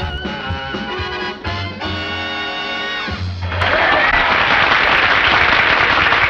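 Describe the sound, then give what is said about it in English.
A sustained musical chord rings out, then loud applause from a crowd bursts in as a man lifts up a ponytail at the front. The applause continues steadily, a dense wash of clapping that drowns out the fading music. “Ponytail at the front, which he quickly lifts up as the crowd applauds.”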